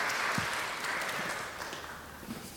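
An audience claps together in a steady, dense patter of overlapping hand claps that holds fairly level for a couple of seconds, then thins slightly toward the end.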